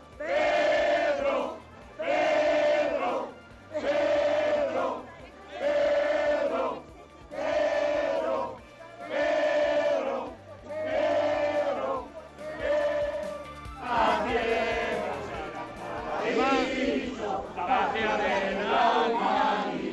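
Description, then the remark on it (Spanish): A crowd of Pedro Sánchez supporters chants a two-syllable slogan, "Pedro", in a steady, repeated rhythm, about nine times, then breaks into overlapping cheering and shouting, including cries of "sí es sí" and "Pedro es Pedro", loud throughout. “Al principio eran una decena, pero ahora son muchísimos más, y es que a medida que avanzaba se iban animando, desde cánticos hasta gritos de sí es sí y Pedro es Pedro.”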